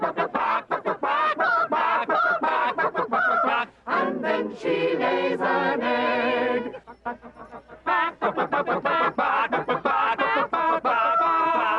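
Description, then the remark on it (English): A hen, looking for her food beside a rooster, clucks and cackles loudly, a rapid, insistent run of harsh calls that carries on throughout with only a brief lull partway through. “My little hen, she's looking for her food beside our rooster proud. Oh, listen to her call.”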